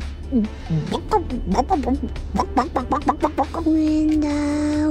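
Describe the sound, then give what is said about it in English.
A voice imitates a chicken with a rapid run of short, choppy clucks, then finishes on a long, steady squawk-like note, over a low background hum. “Mama, what does the chicken say?”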